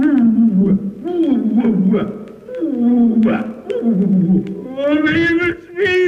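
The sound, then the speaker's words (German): A voice imitates a lion roaring as it is let out through a door: a loud series of drawn-out, wavering growls and roars that rise and fall continuously for several seconds, ending in a higher, strained bellow. “Er lässt den Löwen heraus.”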